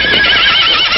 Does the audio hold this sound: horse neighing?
yes